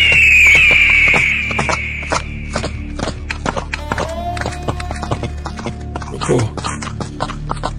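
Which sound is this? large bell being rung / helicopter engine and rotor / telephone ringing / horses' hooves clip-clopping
horses' hooves clip-clopping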